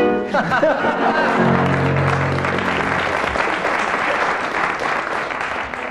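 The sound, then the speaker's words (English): A studio audience bursts into loud, sustained applause, a dense steady clatter of clapping lasting several seconds, with some brief tonal cheering or laughter mixed in at the start. “I didn't tell you, teams, that I should be awarding marks according to the strength and volume of the audience applause.”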